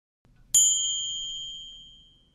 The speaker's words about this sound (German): Der Beginn wird mit einem Gong gekennzeichnet.